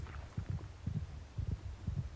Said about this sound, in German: Oh, und ich höre jetzt einen Herzschlag.